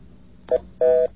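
Two touch-tone telephone dialing beeps as extra digits are dialed, a short one followed by a longer held tone, each a steady dual-pitch electronic note over a faint background hiss.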